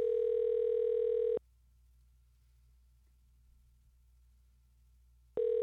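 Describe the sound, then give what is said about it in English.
A telephone ringback tone rings unanswered on a call to a radio host: a steady electronic buzz for about a second, a long silent pause, then the next ring starting. Clear, with no voices. “I wanted to get … on the phone.”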